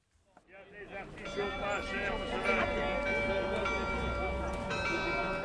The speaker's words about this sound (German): Vom Rathausturm klingt das Glockenspiel über den Wochenmarkt von Saint-Quentin.